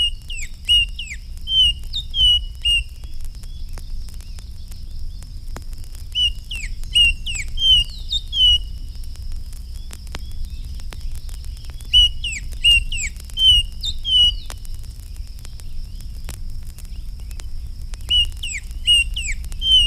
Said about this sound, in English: These red-winged blackbirds give other calls in addition to the familiar conk-a-ree.